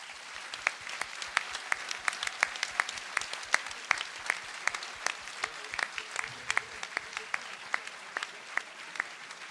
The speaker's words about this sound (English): Thank you to all our panellists. Will you join with me again to applaud them all?